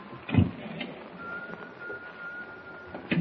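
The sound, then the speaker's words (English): A faint, thin whistle from an unseen whistler aboard a ship holds one steady, eerie note for a couple of seconds over a hissing, noisy background, with a few dull knocks around it and no one speaking. “I got to pull myself together and follow that whistle.”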